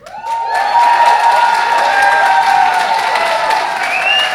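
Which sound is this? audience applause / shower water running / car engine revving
audience applause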